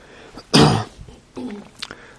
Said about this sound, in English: I don't know about you, but I find a lot of allergy stuff in the air. I've been sneezing, and I'll probably be doing some throat clearing, so please bear with me.